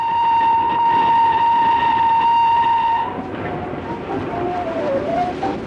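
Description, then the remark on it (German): A steam train's whistle sounds loud and steady for about three seconds, then gives way to a rushing rumble of the passing train with a faint wavering tone. No one speaks. “Gardelegen bekommt Eisenbahnanschluss nach Berlin und Hannover.”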